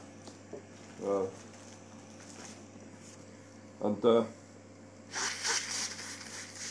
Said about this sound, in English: Sorry about that. Just have to blow my nose.